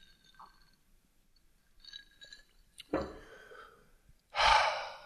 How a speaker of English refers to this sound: So let me enjoy one cocktail, and I'll have a swig as you listen to me close this podcast down. Cheers.